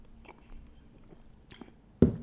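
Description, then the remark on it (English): Quiet sipping of the last of a canned chu-hi drink: soft wet mouth sounds and small slurps over a faint background, ending in a louder gulp-like burst. No one speaks. “All right, last sip of the Chew High right here.”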